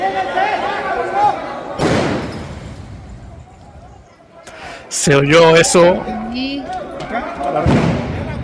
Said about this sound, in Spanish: Dos. Tres petardos, güey. Sonaron. Tres petardos. Nada más porque yo estoy acostumbrado a la pirotecnia en las fiestas patronales de mi pueblo. Si no, me hubiera espantado. Te lo juro. No, y suenan bastante fuerte. Sonaron muy fuerte